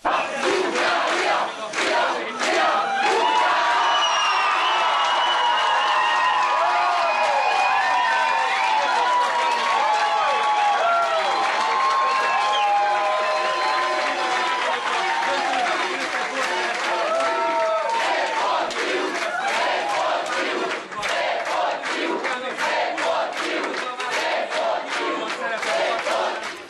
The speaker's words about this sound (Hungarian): Zsúfolási megteltek szombat este azok a kert helyiségek, ahol a magyar vízilabda válogatottnak lehetett szurkolni. A közönség énekelve, ugrálva, kiabálva buzdította a játékosokat.